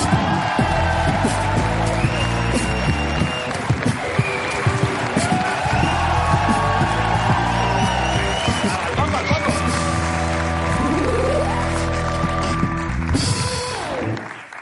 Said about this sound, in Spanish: Vale, y ahora, madre mía, con la liada que hay aquí, pero bueno, da un poco igual porque ahora viene Antonio Resines. Un aplauso para él.